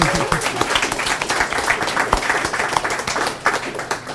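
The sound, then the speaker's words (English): An audience at an event with poetry readings applauds themselves and everybody else steadily, a dense wash of many hands clapping at once with no pauses, holding a fairly even loudness across the whole stretch. “And if you're not tired of clapping, and you shouldn't be, give yourselves and everybody else a wonderful hand.”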